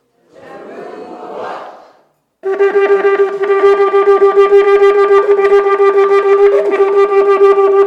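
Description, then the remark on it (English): A shofar sounds a teruah: a loud, bright, buzzy horn note broken into a long run of rapid staccato pulses. A brief breathy rush comes first, then a short pause. “All right, this one's called teruah.”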